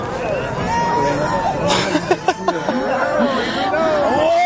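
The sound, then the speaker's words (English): A crowd watching a total solar eclipse buzzes with overlapping excited voices as it grows dimmer, rising into a few sharp cheers and whoops in the middle before settling back into steady, animated chatter. “Want to hear the crowd's excitement.”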